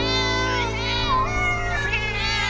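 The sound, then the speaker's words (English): A voice imitates a cat's meow: a loud, drawn-out, wavering yowl, sliding in pitch over a couple of seconds, with a steady low hum underneath. “"Oh, don't let him in till it's all lapped up," somebody shouted, "meow."”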